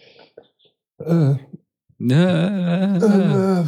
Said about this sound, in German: Also, ja, nee, aber du sollst reden, damit die Leute mich hier nicht aufstoßen hören. Ich sollte einfach aufhören, vor unseren Aufnahmen irgendwelche kohlensäurehaltigen Getränke zu trinken.